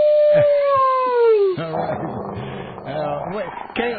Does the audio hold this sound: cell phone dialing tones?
no